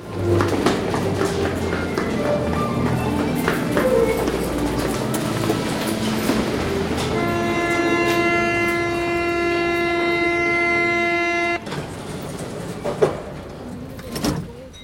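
A metro train rumbles along the rails, with a steady clatter and a rising electric whine in the middle. Sharp metallic clanks follow near the end. No one speaks.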